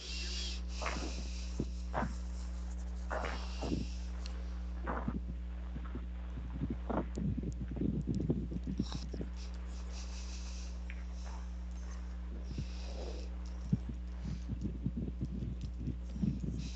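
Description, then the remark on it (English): Faint, irregular thuds like boots stepping on a hardwood floor, heard upstairs in a completely carpeted former loft, coming in scattered clusters over a constant low electrical hum, with no one speaking. “You hear footsteps. This upstairs was completely carpeted, and that sounded like boots on a hardwood floor.”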